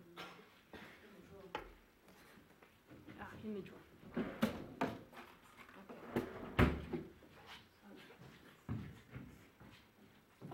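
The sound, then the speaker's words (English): A drawer is pulled open and rummaged through in search of chalk, with a series of irregular clattering knocks and scrapes of loose objects, while muffled voices murmur in the background. “In the drawer.”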